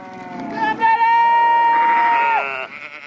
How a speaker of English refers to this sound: And many of the movies I saw last year, like a wonderful film called Sweetgrass about a bunch of sheep being herded for their last pasture, basically, up in Montana.